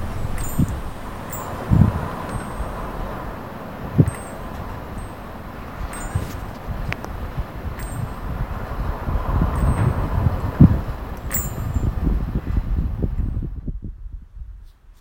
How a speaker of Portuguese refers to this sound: Vento. Sons de vento nas folhas de uma árvore